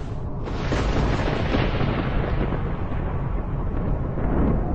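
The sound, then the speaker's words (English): A violent cyclone storm roars steadily, with howling wind and deep rumbling thunder filling the sound at a loud, constant level throughout, with no voices. “a cyclone can be over 500 kilometres across, with the wind swirling around the eye at 300 kilometres per hour.”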